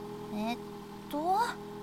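bus arriving

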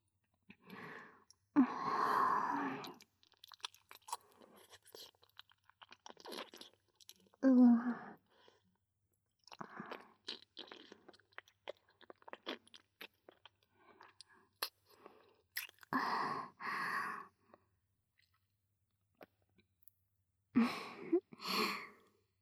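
chewing food

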